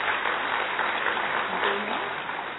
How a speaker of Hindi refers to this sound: इसको भी हम जोर से ताली बजा करके अभिवादन करेंगे।